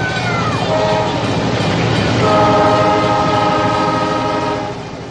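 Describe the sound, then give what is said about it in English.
A toy train set running at full throttle: a steady loud rumble and rattle, a whistle tone dipping early on, then a sustained multi-note horn blaring over the clatter until the end. “Hey, watch what happens when I make it go full throttle.”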